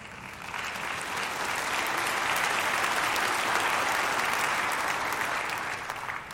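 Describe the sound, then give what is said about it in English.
An audience claps steadily for several seconds, a dense crackle of many hands swelling slightly in the middle and then tapering off, with no voices over it. “Someday I'll preach an entire message on that for you unbelievers who didn't clap very loud.”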